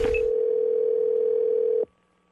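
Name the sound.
telephone dial tone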